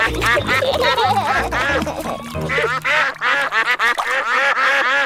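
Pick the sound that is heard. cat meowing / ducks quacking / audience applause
ducks quacking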